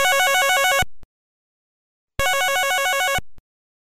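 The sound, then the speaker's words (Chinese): Two bursts of an electronic phone ringback tone, each lasting about a second with a warbling, trilling pattern, separated by a pause of silence, as a call is placed to Xiaobing's parents. Clear, no voices. “小兵的电话都没人听哦， 我们打电话给小兵的父母吧。”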